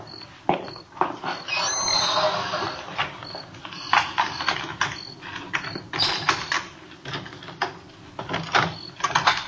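A house's front door on Collis Avenue is worked open at 10:38 p.m.: a series of sharp mechanical clicks and rattles from the latch and hardware, irregular and fairly loud, with no voices.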